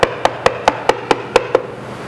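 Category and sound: impact, knocking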